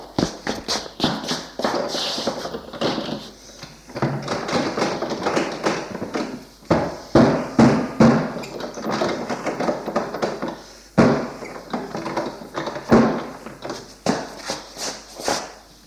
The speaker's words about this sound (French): Il se rue sur la porte pour essayer de l'ouvrir.